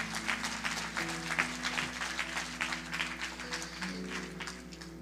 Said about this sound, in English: So yeah, y'all can clap for them.